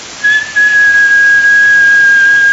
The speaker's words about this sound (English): why does the Ameritron keep kicking offline? Let me give an American whistle.